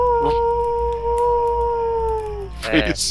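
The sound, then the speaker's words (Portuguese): Coyotes howling in long, sustained wavering tones that hold steady for about two seconds, then break into a brief burst of higher yips and cries near the end, with a low background rumble throughout. “Tem coiotes com algum problema aqui, cara?”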